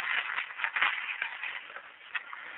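Soft, continuous rustling of paper being shuffled during an amateur radio club broadcast as a lost bit of paper is looked for, with a few sharper crinkles breaking through the steady scratchy hiss. No one speaks.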